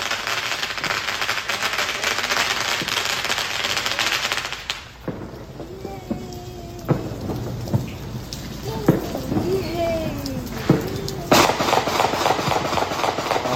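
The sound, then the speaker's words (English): Dense, rapid crackling of fireworks set off by people, heard in a video filmed from a patio where a family watches, fills the first few seconds, then scattered sharp pops and bangs ring out amid faint background voices, with one loud burst near the end. “He had his whole family out on the patio as they're watching people just pop fireworks.”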